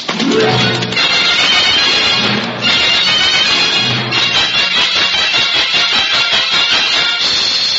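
A horse whinnies in several high, wavering bursts over a loud, dense, continuous rush of sound that could be hooves as it is made to gallop away fast. No one speaks.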